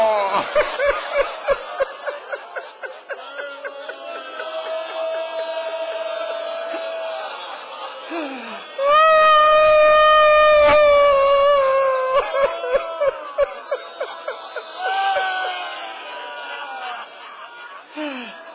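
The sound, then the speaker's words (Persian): A crowd weeps and wails together, opening with choked, rhythmic sobs that give way to long drawn-out cries, swelling into a loud, anguished wail midway before easing back to sobbing. “کی میگه یواش گریه کنی؟ نمیتونی، خدا میدونه نمیتونی، امام زمان میدونه نمیتونی”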